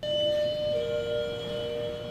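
A front desk bell at the National Vietnam Veterans Art Museum in Chicago rings out in steady, bright tones that hold and shimmer for a couple of seconds, with a slight shift in pitch partway through. No one speaks.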